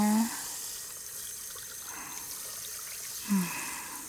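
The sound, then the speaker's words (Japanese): A faucet runs steadily, its even hiss broken by soft splashing as hands are washed under the stream, with soap lathered over palms, backs of the hands and fingertips. A couple of short, faint murmurs come through near the start and end. “だから最初にしっかり手を洗うの。あー、ちゃんと洗ってね。”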